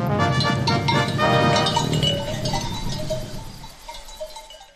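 A flock of sheep grazing on the pastures of the village of Hrastićevo on a foggy, sunny autumn morning around 9 a.m., many bells clinking and jangling continuously, with occasional bleats mixed in; the bell sound thins out toward the end.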